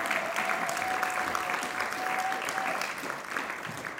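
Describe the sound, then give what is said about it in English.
An audience applauds steadily, a dense, even wash of many hands clapping at a constant loudness throughout, with a faint sustained tone running beneath it for a while. “She's here tonight, and she deserves your applause.”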